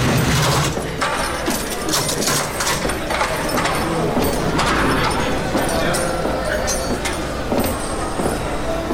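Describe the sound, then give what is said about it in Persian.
A heavy prison cell door clanks shut with a run of loud metallic bangs and ratcheting latch rattles, harsh and continuous, over a low rumbling background. “در سلول رو بستن و موند بین چهار دیواری که آتش کردن نفسش به شمار افتاد.”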